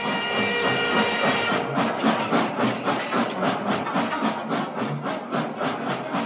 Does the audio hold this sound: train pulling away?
yes